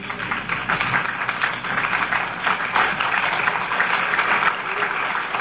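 An audience at a religious television broadcast stands and claps steadily for several seconds as a hand clap for the Lord, a dense, even wash of many hands with no break and no voices standing out.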